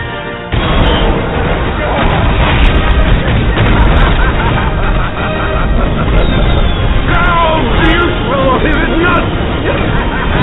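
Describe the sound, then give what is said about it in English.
Fireworks explode in a loud, dense, continuous barrage of booms and crackles, with a few rising whistle-like tones near the end and faint voices mixed into the din. “It's very beautiful because our fireworks will be us headed up in the air.”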